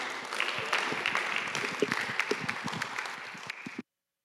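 A room full of people claps together in sustained applause for several seconds, a dense patter of hand claps that cuts off abruptly near the end.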